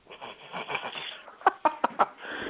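A chicken clucks four times in quick, sharp bursts after a stretch of soft rustling and scratching, moderately loud, with no one talking.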